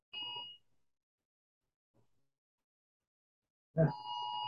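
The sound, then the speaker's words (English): A phone emergency Amber alert tone: a brief burst of steady, harsh electronic tone, then near silence, then the loud alert blares on again abruptly and holds to the end. No one speaks. “That's the name. Amber alert. Everybody's phones are out.”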